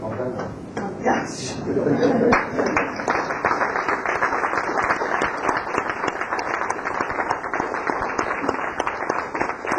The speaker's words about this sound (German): wünsche Ihnen gute Unterhaltung, offene Ohren für heute Abend und für die anderen Konzerte und bitte Sie um einen herzlichen Applaus